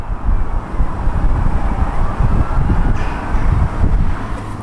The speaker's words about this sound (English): but listen to this, Relative Quiet. Rustling of trees, a distant siren, some hissing traffic.